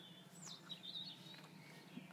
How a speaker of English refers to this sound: I'm just going to take you around the side to see if you can hear the blackbirds.